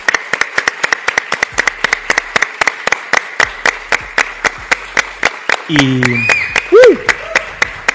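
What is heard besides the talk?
audience applause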